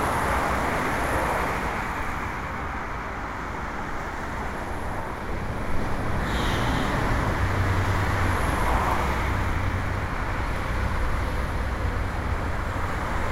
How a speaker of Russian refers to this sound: Природных звуков здесь вообще не осталось, их здесь уже нет. Здесь есть звук шипение колес, здесь есть погружение куда-то вот под каменный мост, под железный мост автомашин или автомобилей.